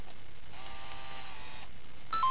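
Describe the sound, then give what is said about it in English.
A Game Boy printer powers on with a steady mechanical whir lasting about a second, followed after a short pause by a brief high electronic beep. There is no talking. “Alright, we'll turn the printer on.”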